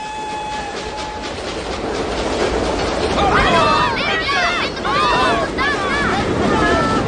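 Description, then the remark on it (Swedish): A train rolls past with a steady, loud rumble of wheels on rails, sharp metallic screeches and squeals rising midway, and a brief whistle-like tone at the start. “Det kanske var enda tågen den här veckan.”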